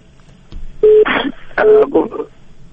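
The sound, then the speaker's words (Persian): Two short bursts of steady electronic line tones, each followed by a noisy crackle, over a faint background hiss, as two phone calls to Radio Azadi are cut off. “بله متاسفانه چه دو تلفن هم قطع شد.”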